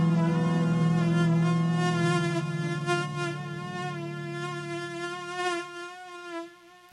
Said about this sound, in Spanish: ¡Ay! Ese mosquito se escuchó muy real. Muy real. A veces es como el ruido un poco como penetrante, ¿no?